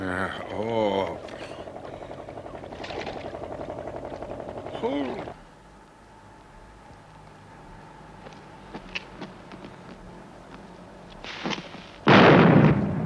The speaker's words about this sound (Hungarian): Te jóságos Isten! Ne nyugtalankodj, drágám, ez csak a déli ágyúszó. Déli ágyúszó? Mit mond? Igen, minden nap 12-kor lőnek. A Castello mezei 1193-as fényes győzelem emlékére.